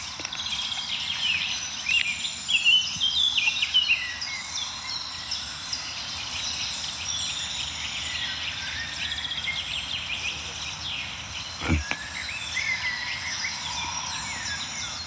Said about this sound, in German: Ja, wir hören so einen milden Amselteppich noch um uns herum, also so einen Klangteppich aus verschiedenen Amseln, die von weit oben singen.